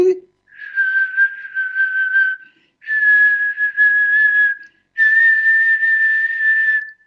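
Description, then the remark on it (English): A person whistles three long, steady, near-pure tones, each held for about two seconds with brief pauses between them, the last slightly higher and louder, directing the whistle at the adrenal glands. “You could do a whistle and go right to a specific organ.”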